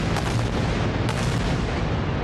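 A dense, continuous roar of heavy bombardment across the coastal enclave of Gaza at night, with deep rumbling booms layered over one another and a sharper blast cutting through about a second in, loud throughout with no voices.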